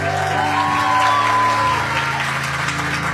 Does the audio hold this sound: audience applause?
yes